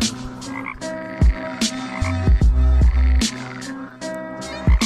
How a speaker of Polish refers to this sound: chociaż wiersz jest troszkę o czymś innym, ropucha, posłuchajmy. Wtedy na wyjeździe w górach, na deskach, niedaleko łóżka, ropucha.